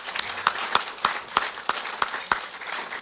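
Audience applause: a steady wash of many hands clapping, with a few sharper, louder claps standing out at a regular beat throughout, no voices.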